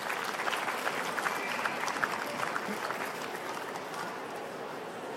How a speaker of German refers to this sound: Und jetzt natürlich einen tosen Applaus bitte